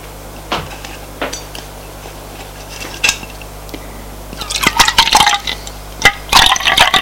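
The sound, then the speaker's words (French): Milk is poured into a cup, a short splashy trickle among light clinks of china and a spoon, with no one speaking. “Alors, lait, sucre. Qu'est-ce que vous prenez? Une goutte de lait.”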